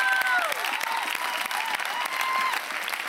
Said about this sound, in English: Would you give them a hand clap? Yeah, you can stand up. They're not here, but stand up and honor them for who they are.